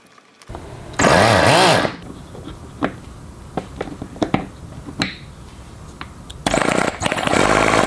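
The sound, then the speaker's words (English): A small rotary engine, just reassembled with new apex seals and springs, cranks and briefly roars for about a second, falls back to scattered sputters and clicks while flooded with fuel, then catches again in a loud, sustained buzzing run. “So I'm just going to throw this whole thing back together. Let's see if we can get it started.”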